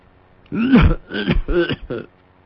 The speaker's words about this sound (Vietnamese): Nói tới đó đột nhiên ho sặc sụa.